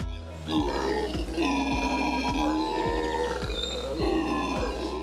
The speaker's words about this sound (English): If you ever take a trip to Central or South America, you may be lucky or unlucky enough to hear a group of howler monkeys.